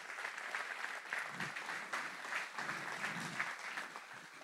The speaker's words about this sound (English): Big round of applause.